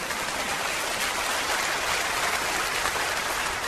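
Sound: audience applause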